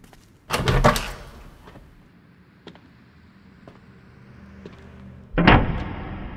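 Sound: door opening and closing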